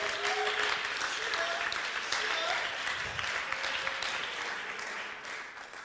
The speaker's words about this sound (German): geben Ihnen einen herzlichen Applaus. Vielen Dank.